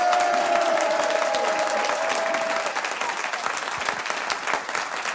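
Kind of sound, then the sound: crowd, audience applauding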